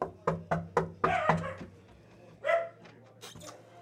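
A small dog named Thor barks sharply in an apartment, five quick yaps in a steady run, then a pause and two more scattered barks over a low background hum.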